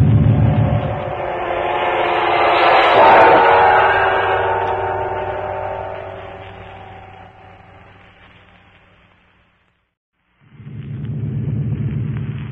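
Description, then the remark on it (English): A deep, droning roar of propeller-plane motors swells to a loud peak as the plane comes in from the sea in the dark, then slowly fades away. After a brief silence another throbbing engine rumble starts up. No one speaks. “Those sound like the motors of a giant bombing plane.”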